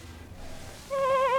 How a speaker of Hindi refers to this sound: वो ठिटक कर खड़ा हो गया और सुनने लगा। फिर आवाज आई, तब गड़रिये ने पहचाना कि ये उसी की भेड़ की आवाज है।